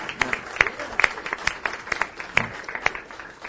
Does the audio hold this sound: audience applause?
yes